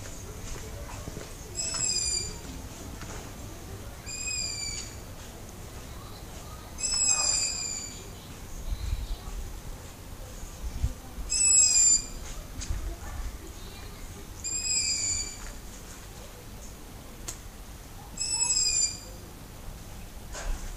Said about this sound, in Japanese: これはですね、フクロウの声なんですよ。ですね、現在確認しただけで約3羽、3匹。こないだ格好が止まっていた斜め裏のお宅のですね、屋根の上のテレビアンテナの上に1匹います。